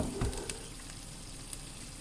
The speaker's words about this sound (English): Right, so that's been cooking for a while. You can hear that kind of spitting, and that's the cheese.